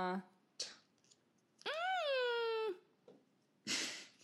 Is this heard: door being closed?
no